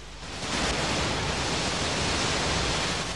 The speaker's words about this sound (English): She walks along the edge of a drop while water rages in the background. She steps towards the edge. She tumbles off the edge into the water below. At the waterfall, it's daylight.